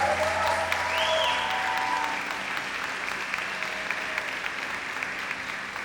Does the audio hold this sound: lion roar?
no